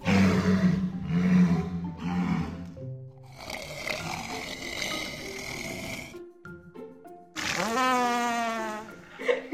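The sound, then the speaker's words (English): Walrus vocalizations above water: deep rumbling grunts and growls, a burst of raspy buzzing, then a rising, wavering bellow, loud with no talking. “Those unbelievable sounds, all made by, yep, walruses.”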